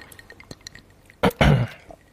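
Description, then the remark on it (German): A few light glassy clinks and taps as people toast with drinks after a conversation, then a louder gulping swallow and a brief throat sound. No one speaks. “Ja, Prost zum Nachgespräch. Prost? Ja, Prost, Prost hier.”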